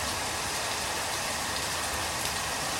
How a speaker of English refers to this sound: It was out my back door in Houston, Texas during a thunderstorm. You can hear the rain's coming really heavy now.